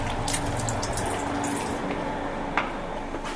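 Cold tap water pours steadily into a glass, a continuous splashing hiss with a brief clink partway through, and no voices.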